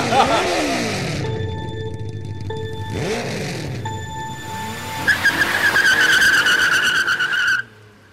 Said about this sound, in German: Genug der kühnen Worte. Starten wir unsere Motoren auf, dass sie heulend erklingen in den nächtlichen Sternenhimmel.